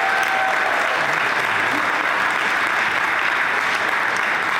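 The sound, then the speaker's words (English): Sustained applause from a large audience of a historic incoming class, the largest in 20 years, fills the space, a dense wash of many hands clapping at steady loudness for several seconds, with no one speaking over it. “You want to give yourself a round of applause for that?”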